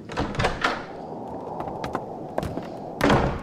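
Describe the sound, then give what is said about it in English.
A door is opened: a few wooden clunks and rattles at the start, a quiet pause, then a heavier thud as it swings. No voices. “Why do you not open the door then, sister?”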